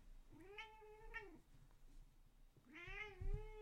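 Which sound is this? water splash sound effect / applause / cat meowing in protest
cat meowing in protest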